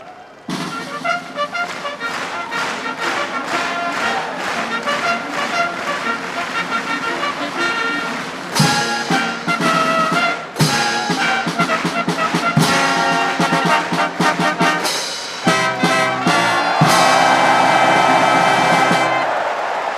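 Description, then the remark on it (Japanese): A loud brass fanfare for the start of the 11th race, the G1 Takamatsunomiya Kinen, at Chukyo Racecourse, Japan, plays in bold, sustained phrases of rising and held notes, with noise from a crowd of nearly 30,000 swelling beneath the final bars. “中京競馬場 G1 高松宮記念競走のファンファーレです。”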